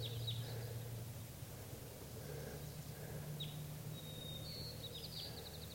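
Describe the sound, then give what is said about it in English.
Wild crossbills, a flock of at least three or four birds including at least one female, perched in the trees above a net at 6:30, give short, high chirping calls, a few scattered notes and then a quick run of sharp chips near the end, faint over a steady low hum. “6:30, and there are some more wild crossbills coming in.”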